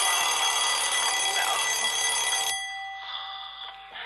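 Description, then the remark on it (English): A loud alarm clock bell rings in a rapid, continuous metallic clatter for a couple of seconds, then gives way to a thinner, higher-pitched ringing that lingers briefly. “Don't wanna hear the bell, the alarm clock's my nemesis.”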